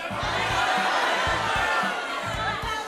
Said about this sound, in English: I want everyone to yell out exactly how much money you're donating, okay? One, two, three.